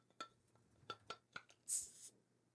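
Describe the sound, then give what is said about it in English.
A Hooli Forge railroad-spike bottle opener clinks against a bottle of Dogfish Head 120-minute IPA, kept since 2016, several times in uneven taps, then the cap pops off with a brief, bright hiss of escaping gas. No one speaks. “We need to open it, but first we need to crack a beer.”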